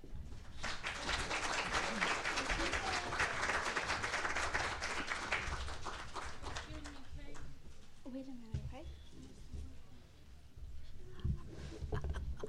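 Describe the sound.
A crowd applauds the Teaching Excellence Awards winners with loud, dense clapping for several seconds that gradually thins and fades out as a voice begins talking over the tail end.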